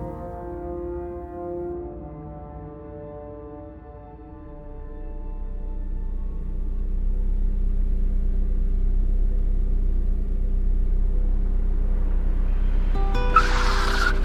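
car engine rumbling

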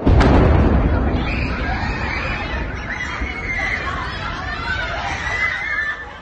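missile explosion

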